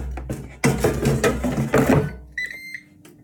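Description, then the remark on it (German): A kitchen appliance with a basket, cooking fish fingers, gives a short, high-pitched electronic beep after a stretch of loud clattering and whooshing, then a low fan hum, about as loud as a loud PC fan, resumes underneath. “Ihr habt das Piepen gehört.”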